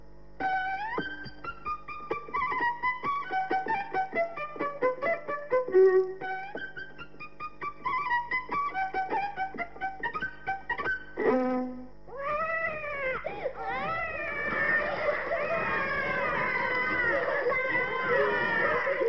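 A child plays a small violin badly, with scratchy, choppy bow strokes and wobbly out-of-tune notes, then a long shrill passage of sliding, wailing tones that sound almost like a yowling cat.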